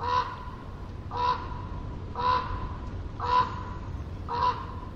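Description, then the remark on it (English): A raven calls five times in a steady rhythm in a forest, each hoarse, mid-pitched croak lasting under a second, over the constant low rumble of the ocean in the distance. “A raven's call is complex.”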